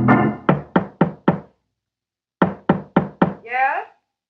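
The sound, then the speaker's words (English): Firm knocking on a door in two rapid bursts, five raps, a pause, then four more, followed by a brief spoken word. “I'll open the door.”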